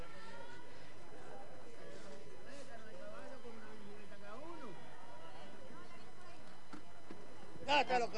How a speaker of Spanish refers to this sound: Ya están los caballos ahí, coño. Ya están. Uy, ya vienen de ahí.